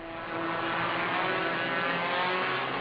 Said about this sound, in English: It's incredibly boring just watching the cars go around and around the track, and I can hardly breathe because of all the smoke and fumes.